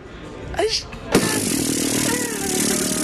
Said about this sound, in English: No, that's when the nipple clamps. That's the buzz you hear. Yeah, that's the nipple clamps. She starts buzzing them.